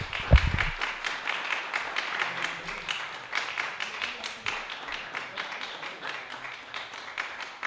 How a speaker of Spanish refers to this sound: Y les pido un aplauso gigante